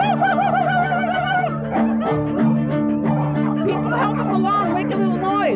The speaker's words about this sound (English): And for 5 minutes, these dogs barked and howled and yelled. And I was like, I thought, I can die right now. So this is just like the most beautiful sound of like free sound.